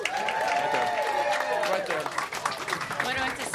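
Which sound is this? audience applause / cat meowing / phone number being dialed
audience applause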